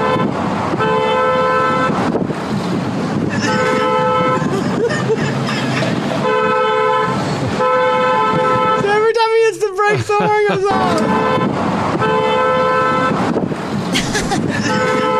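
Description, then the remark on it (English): A car horn, rigged to the car's brakes so it goes off every time the brakes are pressed, honks over and over in long, steady blasts with short breaks between them, loud throughout, with a burst of high squealing sounds partway through. “So, every time he pushed the brakes, the horn goes off.”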